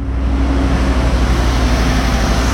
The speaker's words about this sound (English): An 18-wheel truck that just went past. Followed by a Porsche with some agonisingly hip people in it.